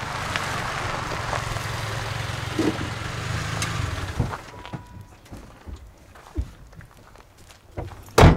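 A truck's engine rumbles over crunching gravel close by, then cuts off after a few seconds, leaving quiet outdoor air broken by scattered footsteps and a loud clunk at the end.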